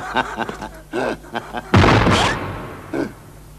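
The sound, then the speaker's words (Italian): A single loud gunshot cracks out right after some brief talking, its sharp blast trailing off in a short rumbling decay before a voice briefly speaks again. “Sì, sì, spara, spara a nonno.”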